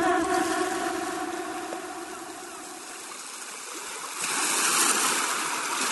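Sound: sea waves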